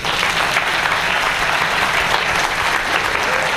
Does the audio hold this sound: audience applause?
yes